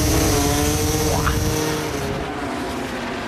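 Loud, high-revving MotoGP racing motorcycle engines roar past the finish line, their whine sweeping upward before fading slightly into a steady drone.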